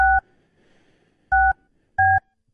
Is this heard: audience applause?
no